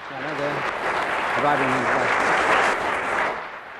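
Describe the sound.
A sustained burst of audience applause, dense and steady for several seconds, with a brief voice breaking through near the start before the clapping tapers slightly at the end.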